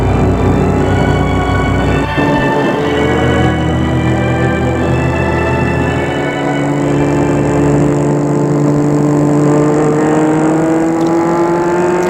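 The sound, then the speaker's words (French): A car engine hums steadily, its pitch shifting as the vehicle changes speed, as a car drives up to an apartment building and stops. No one speaks. “Il arrive devant l'immeuble où habite Harold. Il va arrêter sa voiture.”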